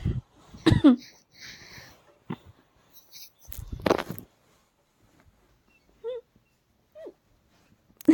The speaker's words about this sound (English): Hiccups.